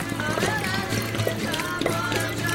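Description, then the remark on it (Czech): Becherovka liquor pours steadily from a bottle at a wedding for a couple of seconds, a continuous gurgling stream, with faint swallowing sounds mixed in as it is drunk down in one go. “No a na ex, paparená.”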